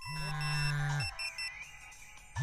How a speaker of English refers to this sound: Ringtones and text alerts. Familiar sounds in Ethiopia.